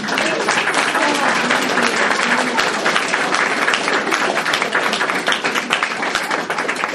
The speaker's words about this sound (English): Yeah, and before we do this next song, can y'all just give Tucker Rogers a round of applause?